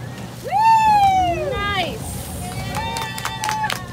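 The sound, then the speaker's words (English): A low, steady motor rumble of a small boat idling as scientists pull up to a patch of seaweed in the Gulf of Mexico to catch baby turtles, with loud rising and falling voice-like calls on top and some splashing clatter toward the end. “You can hear the scientists pulling up to a patch of seaweed here.”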